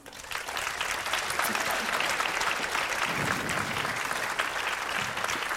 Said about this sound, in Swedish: Och det är dirigenten, och idag har vi en mästerlig sådan i form av det lettiska stjärnskottet Aivis Greiters. En applåd.